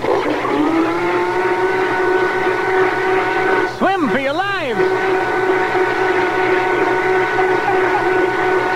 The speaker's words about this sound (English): Yeah, now let me pour it in the blender and put it on mix.